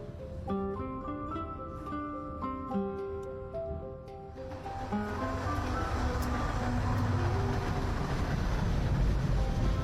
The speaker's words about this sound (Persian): تا لحظات دیگر به ایستگاه ووهان می‌رسیم. مسافرانی که مقصدشان شهر ووهان است، آماده پیاده شدن از قطار باشند.